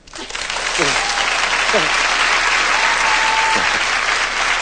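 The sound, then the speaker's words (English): A studio audience breaks into loud, sustained applause that swells quickly and holds steady for several seconds, with a few faint voices and whoops rising through the clapping. “You can't applaud. It's okay.”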